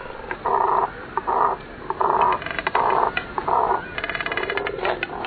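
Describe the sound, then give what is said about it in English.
A cormorant, a bird with only one set of muscles governing its vocal organ, the syrinx, gives a series of harsh, guttural croaks, about five growling bursts with short pauses between them, then a quicker rattling run of pulses at the end. No one speaks. “The cormorant has only one.”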